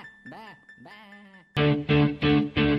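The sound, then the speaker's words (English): Two wavering, quivering bleats, followed by four louder, harsh bleats in a quick steady rhythm, like a sheep calling insistently. “Hey, Sheep, that wasn't half bad.”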